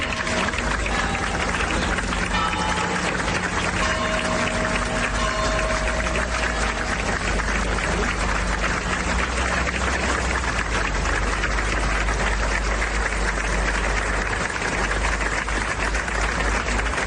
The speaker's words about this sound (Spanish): A la llegada de los restos mortales del expresidente hasta la iglesia de Santa María Magdalena de la localidad, todos los asistentes en el exterior se han fundido en un cariñoso aplauso.